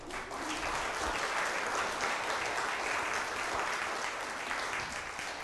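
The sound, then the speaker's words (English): A church audience claps steadily for several seconds to thank a confirmation teacher, a dense, even wash of applause at a constant, moderately loud level with no speech over it. “If you would, just turn and face the congregation and let's let them thank you by an applause.”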